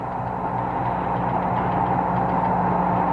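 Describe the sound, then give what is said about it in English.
A steady radio carrier signal drones on without a break, a low tonal hum with a layer of static hiss, holding an even level for the full few seconds with no voices. “Yes, you hear that that sound coming from the radio carrier.”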